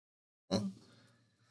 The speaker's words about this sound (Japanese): やめろよ、マジで。やめろよ。その息遣いやめろよ、気持ち悪い。